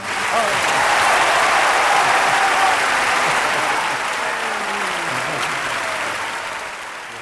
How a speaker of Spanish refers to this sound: Nada, realmente estos aplausos maravillosos